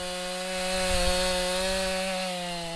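A chainsaw cuts up storm-damaged trees in Verona, near Madison in Dane County. Its engine holds a steady, buzzing drone with a slight rise and fall in pitch over about three seconds, with no voices.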